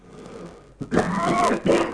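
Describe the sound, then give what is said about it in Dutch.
A fairly loud coughing fit: a short catch, then a rough, drawn-out hacking burst followed by one more harsh cough, with no talking around it. “God, dat wordt vervelend, zeg ik, hoest de interpretatie.”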